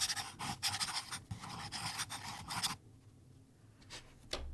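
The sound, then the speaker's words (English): Scratchy strokes of the nib of a purple and blue Canalea Aeolini fountain pen writing in purple ink on paper in quick repeated bursts, then a pause with a couple of lighter final strokes. No one speaks. “It's another fountain pen. Purple ink.”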